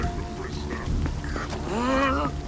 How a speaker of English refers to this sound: Get out of this rain.